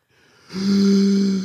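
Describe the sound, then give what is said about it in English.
A deep, loud breath drawn in for a count of four as part of a breathing exercise, with a rough, snore-like rasp. It starts after a short pause and holds steady until the end. “In for four.”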